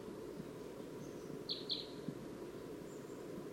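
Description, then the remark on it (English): A wild crossbill, perched in a dead tree just beyond a net, gives a quick pair of sharp, high chip calls, with a couple of fainter notes around them, over a steady low rumbling background. “Recording that wild crossbill.”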